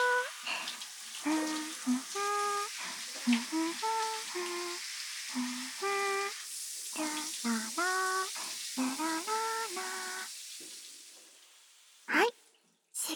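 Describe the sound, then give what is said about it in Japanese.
A steady, bright hiss of spraying hot shower water runs throughout as someone is wetted before a shampoo, while a voice murmurs and sing-songs over it, ending with a couple of short, sharper bursts of spray. “シャワーっと、シャワシャワー。”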